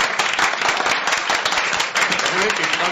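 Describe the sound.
An audience at a live broadcast of radio station 48 FM 94.1 breaks into steady applause for the station's sound technician, a dense wash of many hands clapping at once that stays loud and even throughout, with faint voices mixed into the noise.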